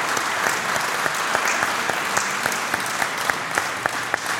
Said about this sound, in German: Gab es hier vom Kumpels erstmal ein heftiges Danke. Auch mal einen kleinen Applaus, großen Applaus.